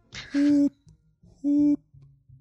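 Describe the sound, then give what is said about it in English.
A voice imitates the hooting sound made by two parked UPS delivery trucks: two steady, low-pitched, buzzy hoots, each lasting about a third of a second, separated by a short pause with soft murmuring between. “I'm walking past these two UPS trucks, and they're both making this sound.”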